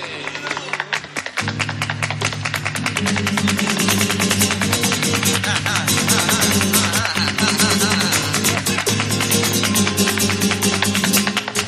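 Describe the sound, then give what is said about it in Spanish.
Rapid, sharp heel-and-toe taps from a male flamenco dancer's footwork on stage rattle out in dense, driving bursts over a steady bed of guitar and low accompaniment, loud and continuous throughout. “Escucha su taconeo.”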